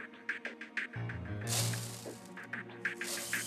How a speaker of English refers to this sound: I have an idea. These glasses are identical. Let's fill up each cup, pour that amount into a glass, and compare the amounts.